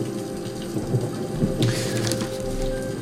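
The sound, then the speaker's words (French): Steady rain falling on the golden face of a giant seated Buddha statue, a dense hiss with a low rumbling bed and a few brighter spattering bursts partway through, continuous, with no voices. “La pluie, bien sûr, qui s'écrase contre son visage doré.”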